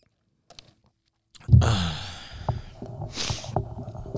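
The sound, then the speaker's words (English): A loud slurping sip of coffee from a mug, followed by a swallow and a breathy exhale, after a brief quiet moment with a couple of faint clicks. “So let me take a sip of coffee real quick.”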